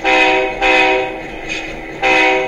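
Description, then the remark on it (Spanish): A digital model train's whistle, operated from a mobile phone, sounds in several loud, steady tooting blasts: two long ones back to back, a brief fainter toot, then another strong blast, with no one talking. “Ahí está el silbato. Escuche esto, ¿eh?”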